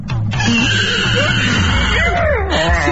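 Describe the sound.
A person imitates a horse's whinny with a loud, wavering, pitch-sliding vocal cry that rises and falls for about three seconds, with a rough, strained quality throughout.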